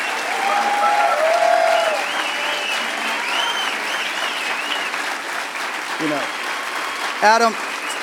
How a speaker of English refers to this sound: Nobody working AV on the lighting, the sound, the video was paid this year. They're all volunteers. They brought in and sourced all the equipment to bring a fabulous show to here. Can we give a huge round of applause to the AV techs?